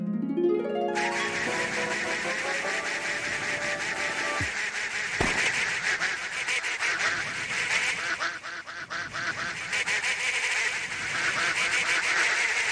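A loud, dense chorus of many ducks quacking at once in the video game The Dark Snapshot, where the player photographs the ducks when their quacking grows loud; overlapping and nearly continuous after a brief rising tone at the start, with no one talking.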